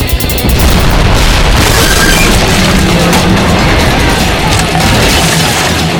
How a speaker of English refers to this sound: The explosion literally ripped away the whole central support system for the bridge. Slowly, as if in a dream, it crumbled in pieces and headed for the water below.